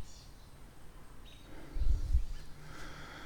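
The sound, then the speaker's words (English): Faint birds chirp intermittently in a quiet outdoor setting, with a brief low rumble of wind or movement partway through. “I hear birdies doing stuff.”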